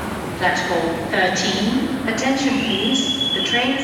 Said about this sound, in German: Gleis 13, bitte Vorsicht, der Zug fährt ab.